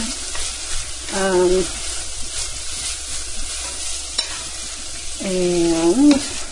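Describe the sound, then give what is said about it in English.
A large amount of onions, just tipped into a frying pan, sizzle steadily with a constant hiss and crackle, broken twice by short squeaky scrapes of stirring. “All right, I'm tipping my my onions in there now. And that's another reason, like, no need to push it with the spices, because, yeah, they're going to be in there with the onions.”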